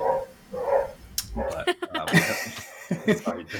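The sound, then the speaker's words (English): A dog barks a few times in short, sharp bursts, mixed in with faint background noise and a talking voice. “A dog is chiming in somewhere, so he distracted me.”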